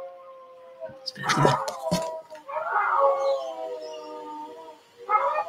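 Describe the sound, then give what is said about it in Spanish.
Two husky-mix sibling dogs howl together in long, wavering, overlapping tones, one starting and the other following, broken by a couple of sharp louder yelps or barks near the start, clear. “Ahí están los perros dando su concierto. Como son una pareja de hermanos, los dos son enrazados con Husky, empiezan a.”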